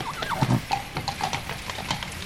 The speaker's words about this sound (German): Hör mal, das sind Pferde. Ich frag mich, was sie so spät noch machen.